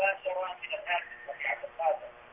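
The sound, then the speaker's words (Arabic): A television plays in the background of a caller's telephone line from Somalia, its voices thin and muffled over the line, steady and moderately loud with no one speaking directly into the phone. “أخفض التلفاز أخي الكريم حتى نستمع إلى تلاوتك.”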